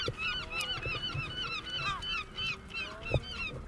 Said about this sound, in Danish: Og vi stiller om til Glyngøre nu. Kan I høre mågeskrigen?